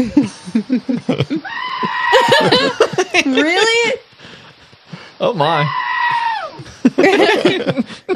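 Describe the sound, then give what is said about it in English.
Goats, one of them a baby, bleat loudly in long, wavering cries, screaming with their tongues out, several overlapping calls in quick succession, with people briefly reacting in surprised voices between them. “These are the deaf goats Another of the world.”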